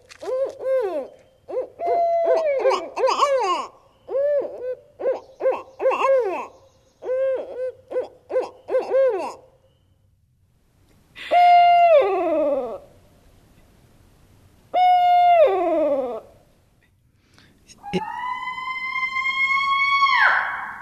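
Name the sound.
barred owl calls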